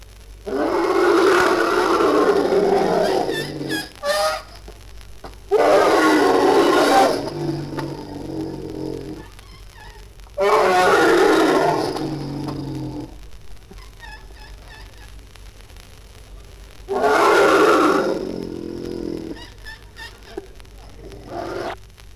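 Elephants trumpeting loudly in four long, brassy blasts, each lasting a few seconds and separated by short quieter gaps, with no one speaking.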